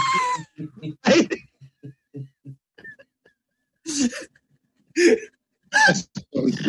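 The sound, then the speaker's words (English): Shrieking eels screech in a run of shrill, wavering cries, first as quick rhythmic chattering pulses, then as several louder, harsh bursts separated by short silences. “Do you hear that, princess? It's the shrieking eels.”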